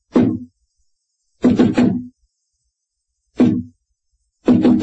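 Heavy, dull knocks on a very solid-looking door to a secret basement club come in an uneven pattern: a single rap, a quick cluster of raps, another single, then another cluster. The knocks are loud and low-pitched, with silence between.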